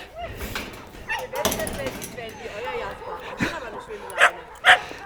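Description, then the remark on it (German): Dogs, including Jasper, barking while romping and playing with friends at the Huta at midday on New Year's Eve, with two sharp, loud yips near the end standing out over a busy background of scuffling and low murmuring voices. “Und Jasper hat jetzt noch mal für 2 Stunden die Möglichkeit, in der Huta eine Runde zu flitzen und zu toben und spielen mit seinen Kumpels.”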